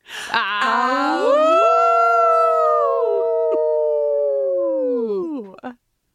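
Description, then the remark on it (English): People let out a long, loud wolf-like howl, several voices rising together and holding one sustained note for about five seconds before it breaks off at the end. “I hardly feel qualified to howl along with you, but you will be adding an incredible amount of howl cred to us.”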